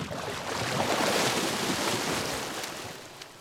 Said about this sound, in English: playing underwater hockey.